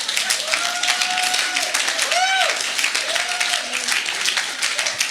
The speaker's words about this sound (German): Und ich möchte, ja, ihr dürft auch eben klatschen, wenn ihr wollt.